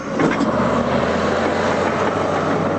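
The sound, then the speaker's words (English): A steady, dense rumble of cars, buses and trucks weaving through an S-shaped military checkpoint of dirt barricades and armor, their engines droning continuously, broad and unbroken with no clear individual passes. “Giant military earth movers dump mounds of dirt, making the flood of cars, buses, and trucks weave through an S-shaped checkpoint of dirt barricades and armor.”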